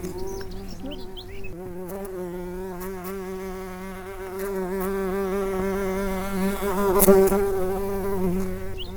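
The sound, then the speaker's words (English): A dense, steady drone of many bees humming together at a hive in the Marble Arch Caves Geopark, buzzing continuously with wavering pitch and swelling slightly louder toward the end, with no voices. “The sound of nature's dreaming is the hum of bees and the audible activity of the hive.”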